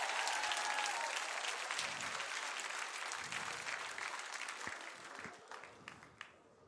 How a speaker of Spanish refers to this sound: Vamos, denle un aplauso bien fuerte.